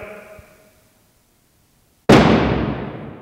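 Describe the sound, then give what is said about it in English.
A faint fading tone gives way to silence, then one huge strike of the large percussion hammer in Mahler's Sixth Symphony lands suddenly, a loud booming thud whose broad, crashing resonance slowly dies away. “In my part, it says hammer. That's all it says. Gross hammer, large hammer.”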